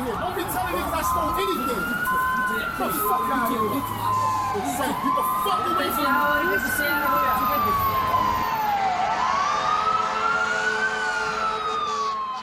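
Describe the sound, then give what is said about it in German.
Emergency vehicle sirens wail continuously on a New York street, their pitch sweeping slowly up and down in long repeating rises and falls, loud over a busy street rumble with faint voices mixed in. “während Sirenen heulen oder streitende Menschen auf der Straße und quietschende Aufzugstüren im Gang nebenan zu hören sind.”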